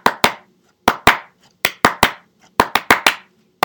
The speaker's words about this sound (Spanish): La gente aplaude en polirritmia.